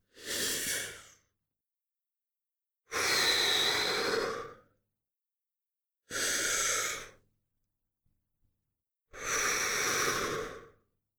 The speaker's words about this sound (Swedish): Nu får du andas djupt och lugnt.